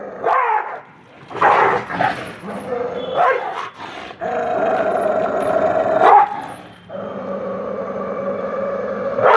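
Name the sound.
dog barking and growling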